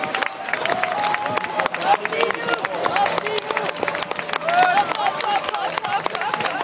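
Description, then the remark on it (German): Steady scattered clapping from dozens of spectators lining the bank of the Aare river as swimmers leap into the water and fight its current, with excited voices and chatter mixed in throughout, continuous for several seconds. “Unter einem Applaus von Dutzenden Schaulustigen, die das Aareufer gesäumt haben.”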